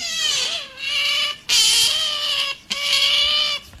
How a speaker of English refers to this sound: Let us relish in this moment during the show where we are now educating everyone on the sounds of an otter. Hang on. It's like a little kitten.